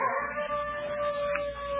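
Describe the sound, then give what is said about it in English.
A neighbor's dog howls in one long, sustained, wavering cry that holds steady throughout, moderately loud, with no one talking over it. “It's just some neighbor's dog.”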